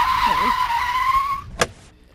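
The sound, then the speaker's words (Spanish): Tires screech in a steady, high squeal for over a second as a car skids to a stop in front of a gloomy mansion, ending with a brief sharp thump before things go quiet. “El coche se ha parado delante de una mansión lúgubrosa.”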